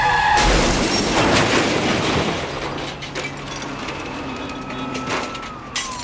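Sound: car skidding and crashing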